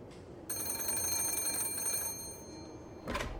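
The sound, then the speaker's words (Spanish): A telephone bell rings for an incoming call from the King of Romania, in a single rapid, trilling burst lasting about two seconds, bright and metallic, then tapers off, followed by a short noisy rustle. No one speaks. “Y en ese momento el asistente Jules entró corriendo a su oficina y le hizo saber que tenía una llamada.”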